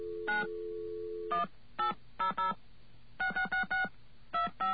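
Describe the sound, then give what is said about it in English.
Touch-tone dialing of an 800 number on a phone: a steady dial tone cuts off, then a series of short, bright dual-pitched beeps sounds in quick irregular bursts, about ten tones, with no voices. “Now, what we're going to do here is pick up a phone once again. I'm going to call an 800 number, a very special 800 number.”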